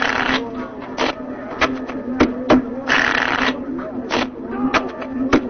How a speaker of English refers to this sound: Please wait while I shuffle the cards.